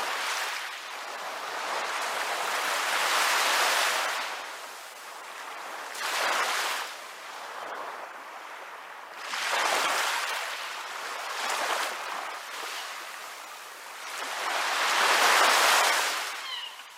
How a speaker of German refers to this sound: Von hier oben höre ich den Wellen beim Tanzen zu.